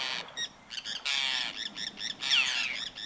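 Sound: forster's tern call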